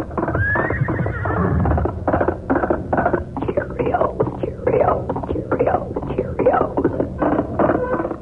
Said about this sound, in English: Yes, when you hear that galloping horse, it's the Lone Ranger.